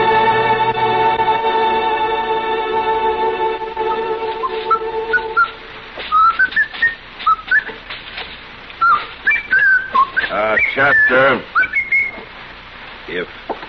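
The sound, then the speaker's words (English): A man whistles a lilting melody, bright sliding notes rising and falling, while a steady hum runs underneath at first and a single word is spoken briefly. “You insist on whistling. Would you mind doing it outside?”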